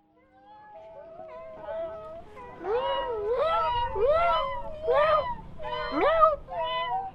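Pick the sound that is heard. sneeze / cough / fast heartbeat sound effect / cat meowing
cat meowing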